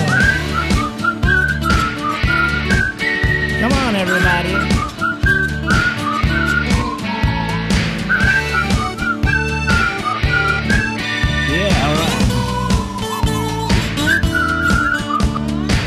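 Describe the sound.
A lively tune is whistled over a bouncy, steady musical accompaniment with a regular beat. The high whistled melody trills and slides throughout, and a voice briefly calls out once.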